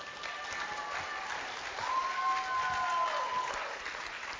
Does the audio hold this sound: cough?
no